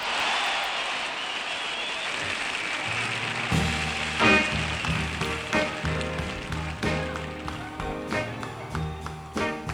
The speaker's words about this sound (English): I'd like to have you welcome now with a warm round of applause a man whose voice everybody would like to have